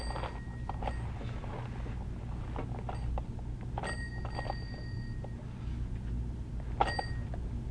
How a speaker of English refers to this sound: Ring the bell.